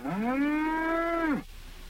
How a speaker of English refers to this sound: Oliver's asked me to show you the cattle.